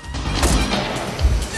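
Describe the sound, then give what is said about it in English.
The door of a Mercury car opens and swings shut with a solid thud, surrounded by rustling and low vehicle rumble, with a second heavy thump near the end. “Rosta crosses the street, opens the door of the Mercury, and gets in with Barada.”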